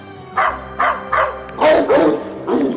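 Dogs bark in a quick series of about six sharp woofs at the start of a dog agility race, the first three evenly spaced and the later ones louder and more overlapping, as if several dogs join in.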